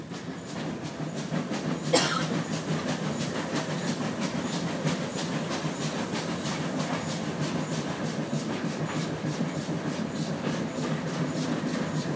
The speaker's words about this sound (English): We're now leaving. Now we're to Totnes. Train driver's really giving it some beans now.